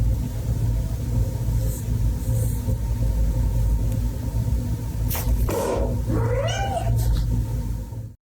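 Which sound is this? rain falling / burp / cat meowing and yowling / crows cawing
cat meowing and yowling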